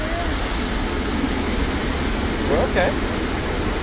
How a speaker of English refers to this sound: What are we in? What are we in? Car wash? Car wash. We're in a car wash? Car wash. We're okay. See? We're in car wash.